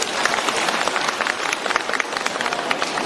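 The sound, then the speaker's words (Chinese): An audience applauds steadily for about three seconds, many hands clapping at once in a dense, even crackle with no voices standing out, applauding again to thank Master Lu (Lu Taizhang). “让我们掌声再次感谢卢台长。”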